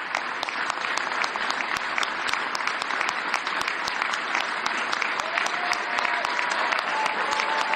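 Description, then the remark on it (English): Sustained standing-ovation applause from a large audience at the National Prayer Breakfast in Washington, D.C., for the president of the United States, a dense, steady wash of clapping with sharp individual claps popping through, holding at an even, fairly loud level throughout without any speech. “Clearly still getting a good round of applause there.”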